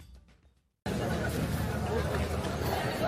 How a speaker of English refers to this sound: Venice is abuzz with crowds as the 61st edition of the Venice Biennale gets underway